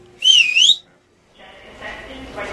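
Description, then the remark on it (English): A female film prop master blows a loud, piercing whistle for about half a second, its shrill pitch dipping and rising again, followed by a pause and then a murmur of background room noise. “Her dad told her she would need a powerful whistle to do the job.”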